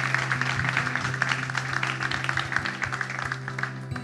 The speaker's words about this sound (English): Folks, can we just give a round of applause to those? There's quite a few people. Amen.